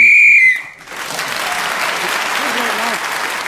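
A single loud, piercing whistle blast lasting about half a second marks time up, immediately followed by sustained applause from an audience that continues to the end.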